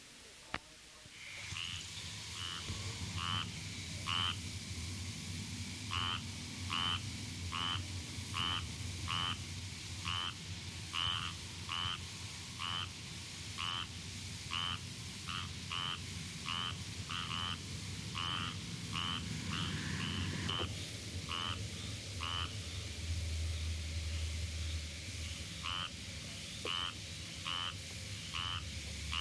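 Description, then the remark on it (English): A single squirrel tree frog (Hyla squirella) gives a long series of short, raspy, duck-like quacks at a steady, quick pace, loud, over a low continuous background drone. “The call of a single frog is like a quack.”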